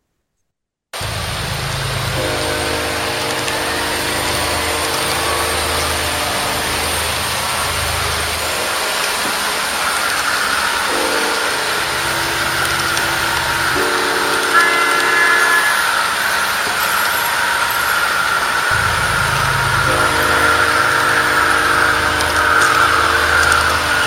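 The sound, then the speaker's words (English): Lionel toy model trains rumble steadily along a track, a loud continuous clatter broken by several drawn-out, horn-like whistle tones; no one speaks. “These are deafening Lionel trains, I can tell. It's not the cheap stuff.”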